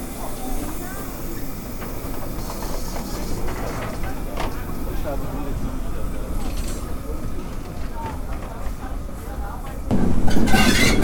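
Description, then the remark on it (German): Steam locomotive 58311 rumbles and chuffs past, running tender first on a station special trip with people riding in its cab, with a steady hissing, rattling roar that grows louder near the end. “Hier knattert gerade die 58311 Tender voraus an uns vorbei.”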